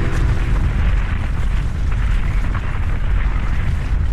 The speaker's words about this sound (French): Et ce bruit, ce fracas, c'est celui d'une avalanche qui fait rage, un bruit traumatisant si on l'entend en montagne